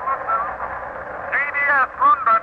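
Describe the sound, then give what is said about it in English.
A thin, narrow-band radio transmission crackles through faint static coming in from the Western Ocean, carrying a warbling, garbled voice-like signal that rises and fades in short bursts, as CBS London tries to reach the Columbus expedition. “It may be nothing but those strange patterns of static coming in from the Western Ocean.”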